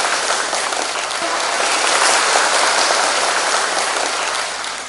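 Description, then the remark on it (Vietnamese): Sustained applause from a large crowd, a dense steady wash of clapping that stays loud throughout and tapers slightly at the end, with no talking. “Xin dâng một tràng pháo tay hạnh phúc chúc mừng các con.”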